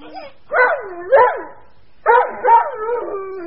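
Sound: dog barking loudly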